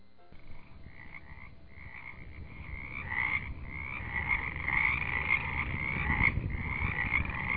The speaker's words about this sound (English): So many of you have written to tell me how you love the frogs as much as we do. So Joe has put them on a CD for you